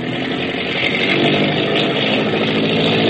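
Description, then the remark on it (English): A motorboat engine roars loudly and continuously at sea at nightfall, a rough, buzzing drone with a throaty mid-range growl that holds steady as the throttle is opened. No voices are heard. “The Long Tom up ahead digs her stern down and begins throwing up a bow wash. Hackett is opening up. Open her up, Grab.”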